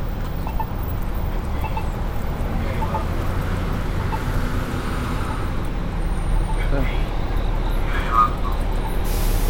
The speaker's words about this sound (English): That's the guy on the bus announcing where the bus is going. It's very cool. I didn't understand what he said, but I bet if I was riding the bus, I might have.